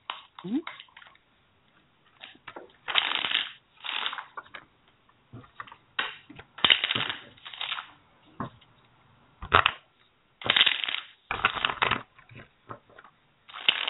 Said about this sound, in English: Okay. You got 30 seconds of aggressive shuffling.